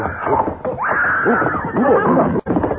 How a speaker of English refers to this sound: Paladin, there's a mountain lion up